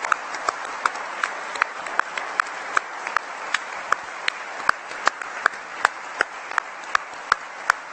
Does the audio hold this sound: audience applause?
yes